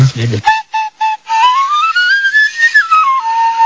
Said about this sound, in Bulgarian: А знаете ли какво точно е това в ръката на стареца? No. Не. Свирка. Свирка. Свирка?